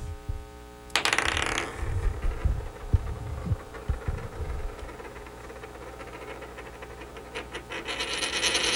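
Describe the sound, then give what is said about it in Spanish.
A coin is flipped, called as sol or águila, with a sudden bright metallic burst, then lands on águila with a quick series of soft, irregular thuds that settle over a few seconds, leaving a low steady hum. No one speaks. “Sol, la del elefante, y águila, la de los gorrones.”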